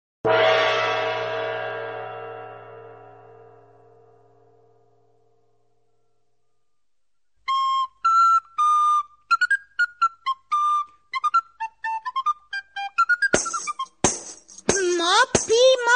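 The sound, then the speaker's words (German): After a long, fading bell-like tone and a pause, the puppet character Peti from the Sandmann evening greeting whistles sweetly like a flute, playing a quick, bright melody of short rising and falling notes, joined at the end by loud, sharp thumping drum beats. “Wenn Peti lieblich flötet, darfst du doch nicht pauken wie eine Dampframme.”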